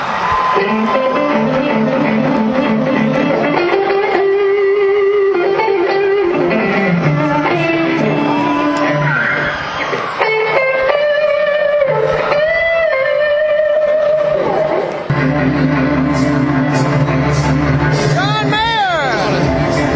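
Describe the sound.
A concert crowd cheers loudly and steadily as the stage lights go off before the headliner comes on, a dense roar of many voices with high shouts and whoops rising above it, never pausing for the whole stretch.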